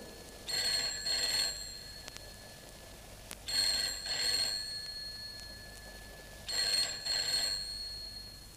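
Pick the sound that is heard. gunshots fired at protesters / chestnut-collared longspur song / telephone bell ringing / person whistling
telephone bell ringing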